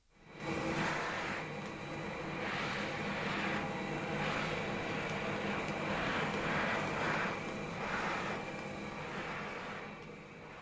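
A vacuum cleaner switches on abruptly and runs with a loud, steady motor roar and high whine, droning evenly for about ten seconds before easing slightly at the end.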